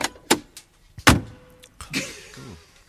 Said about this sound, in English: I appear to have arrived in the 1930s car. with a very stiff door handle.